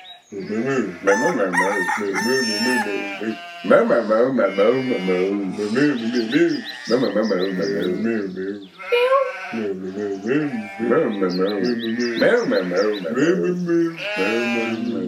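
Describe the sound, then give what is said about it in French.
Voices imitate cows mooing back and forth to each other in long, wavering calls, loud, with short pauses between turns and a brief meow of a small cat passing midway. “Ce dialogue entre vaches avec le passage du petit chat était commandité par le forum du Tamtam communautaire”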